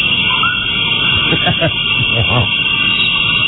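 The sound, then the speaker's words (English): A steady, high insect-like drone fills the swamp ambience, while a few low, throaty croaks or calls rise and fall in the middle of the stretch. “it's our swamp ambiance sound for the next time that we just turn the mics off.”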